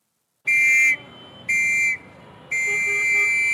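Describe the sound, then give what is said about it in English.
Three sharp, piercing whistle blasts, two short and one longer, blown by a Boy Scout wearing a neckerchief to halt traffic at an unruly intersection in Dhaka, Bangladesh, cut through a steady, loud rumble of street traffic. “A Boy Scout, neckerchief in place, whistles to halt traffic at an unruly intersection.”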